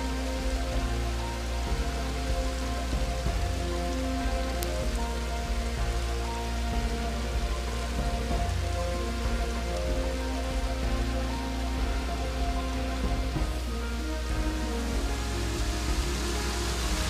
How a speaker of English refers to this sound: The creek tumbles its way down the mountainside through gardens of wildflowers toward the waterfall.